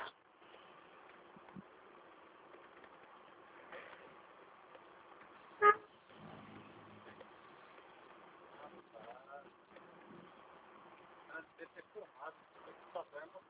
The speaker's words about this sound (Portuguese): Ele deve ter filmado esse caminhão aí, podando eu, rapaz.